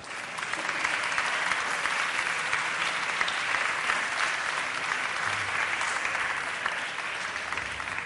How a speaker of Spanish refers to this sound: O sea, os voy a presentar al rector de la Universidad Miguel Hernández de Elche, hace 20 años ya, y él ha hecho que todo esto evolucione hasta este día de hoy, Día Alumni UMH. Un aplauso fuerte para don Jesús Tadeo Pastor.